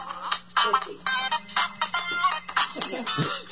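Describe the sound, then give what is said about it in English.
An odd, busy mobile ringtone plays at moderate loudness, a dense run of warbling, chirpy electronic tones in quick bursts with a steady low hum underneath. “Now my phone's ringing.”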